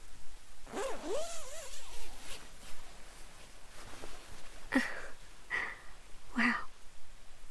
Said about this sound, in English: There. Now, zip us back up for me.